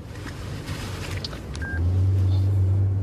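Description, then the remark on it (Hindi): A short electronic keypad beep sounds once as a woman dials a mobile phone to call her uncle inside a moving vehicle, over a steady engine rumble that grows into a loud low drone. “किसे फोन कर रही हो?”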